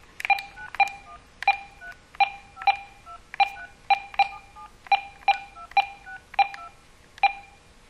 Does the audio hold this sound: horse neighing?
no